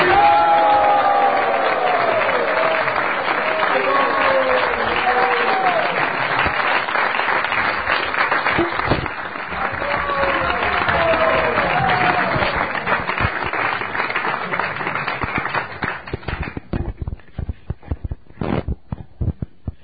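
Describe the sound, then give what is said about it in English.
A large festival audience applauds steadily, a dense wash of clapping with a few cheers mixed in, loud and sustained before thinning out to scattered claps near the end. “This applause was really not big enough.”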